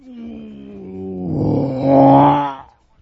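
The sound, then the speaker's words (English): A voice imitates the roar of airplanes passing overhead, heard from a hotel every 15 and a half minutes. It is a low, sustained vocal rumble that swells louder and rougher over about two seconds, then cuts off abruptly. “Planes. Every 15 and a half minutes.”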